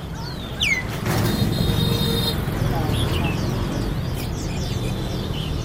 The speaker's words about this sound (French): Le marché Hang Zai jouxte une rue assez bruyante en plein cœur de Hanoï.